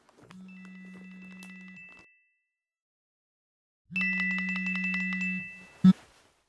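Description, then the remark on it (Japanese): A phone rings in two sustained electronic bursts separated by a short silence, the second buzzier and pulsing, then cut off by a sharp click. No one speaks. “あ、時間来たら電話来るんだった。”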